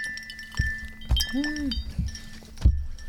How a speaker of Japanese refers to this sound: 乾杯。